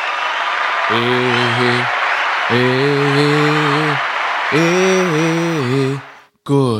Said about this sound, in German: Und deshalb sagen wir hier vom Alama Pyjama Podcast danke Magawa und spielen jetzt mal einen ganz klaren Applaus.